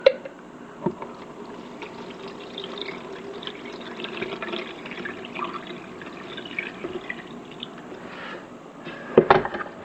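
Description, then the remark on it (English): A Bun drip coffee maker brewing a dark cup of coffee, with a steady stream of trickling, gurgling liquid throughout and a couple of sharper clinks, one near the start and a louder burst at the end. “This Bun coffee maker does not take a lot of grounds to make a pretty nice cup of dark cup of coffee.”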